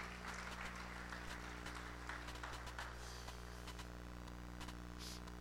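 An audience claps hands for the Lord in a dense, continuous burst of applause lasting several seconds, fairly soft overall, with a steady low electrical hum running underneath.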